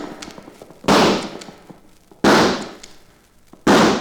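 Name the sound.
rifle shots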